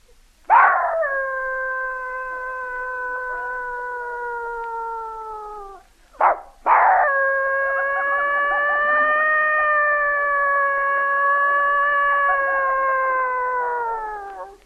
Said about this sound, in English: A dog serenade.